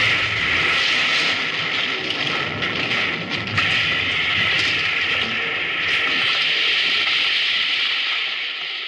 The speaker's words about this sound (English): Come on, that train's right on top of us.